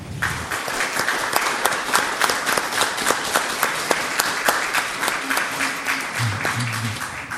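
A crowd applauds steadily for several seconds for an outgoing board vice president, a dense patter of many hands clapping at once, sustained without a break.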